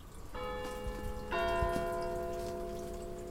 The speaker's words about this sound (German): Die ersten 4 Jahre lang hast du den Klang einer Tessiner Kirchenglocke gehört.